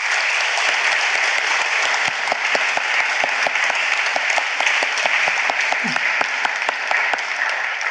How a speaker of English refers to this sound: I hope you could all join me in applauding our wonderful panellists.